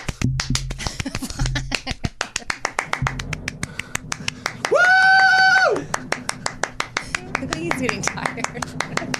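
One person claps hands rapidly and steadily, sharp slaps following one another for the whole stretch, with a brief tonal whine rising over them midway.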